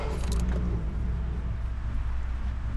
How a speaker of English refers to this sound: I give a little prayer of thanks when the car turns over.